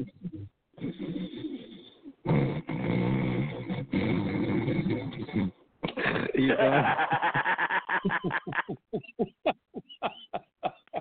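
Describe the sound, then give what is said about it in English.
Loud, groaning snores with deep voiced drones, then a fluttering, rattling snore that breaks into a string of sharp pulses, gradually slowing and fading out. “Dude, your snores sounded like something out of Hades.”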